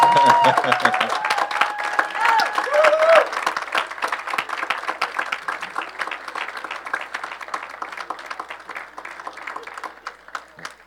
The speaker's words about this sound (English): And it's okay if you say, way to go. Woo-hoo! You can clap, you can...